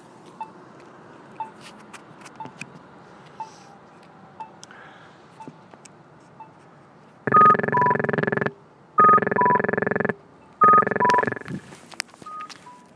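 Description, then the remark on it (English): An accessible pedestrian crosswalk signal at a city intersection with snowbanks, activated by pushing its button, ticks steadily about twice a second, then breaks into three loud, sustained electronic beeping bursts, each roughly a second long, as the light changes, over faint outdoor street noise. “You'll notice these lights do beep.”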